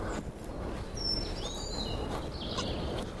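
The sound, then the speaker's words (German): Thin, high bird chirps and short whistled trills over steady low background rumble, a few brief calls scattered across a few seconds, with no one speaking. “Jetzt zwitschert was.”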